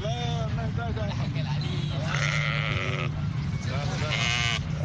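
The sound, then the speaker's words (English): Hundreds of sheep bleat loudly and continuously at a roadside market along main roads into Khartoum, Sudan, as families prepare for Eid al-Adha: overlapping wavering cries over a steady low rumble of outdoor activity and voices. “Hundreds of heads of sheep could be seen along main roads leading in and out of Sudan's capital, Khartoum, Thursday, as families prepared for the Eid of Al-Adha feast.”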